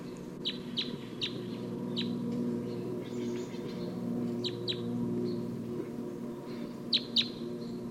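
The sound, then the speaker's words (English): A wild bird, number 258, calls in short, sharp, high chirps, coming in small bursts of two or three with pauses between, over a steady low droning hum. “So recording, 258 continues to call here.”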